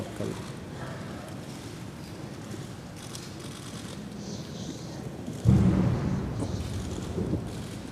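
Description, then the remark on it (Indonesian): A single deep cannon boom bursts out partway through, loud and rumbling, over a steady wash of outdoor noise and faint crowd murmur. It is one of 17 rounds fired in a ceremonial salute marking the completion of a royal wedding solemnization ceremony. “Sebaik lafaz kabul disahkan, tembakan meriam sebanyak 17 das dilepaskan sebagai menandakan istiadat akad nikah diraja telah sempurna.”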